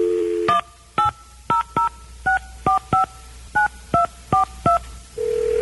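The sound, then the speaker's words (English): A steady phone tone gives way to a quick, even run of about eleven touch-tone beeps, loud, then another steady tone returns as the line connects, on a saved recording of a real phone call to Publishers Clearing House made about 15 to 20 years ago. No voices. “I decided to call and try to act like a regular guy.”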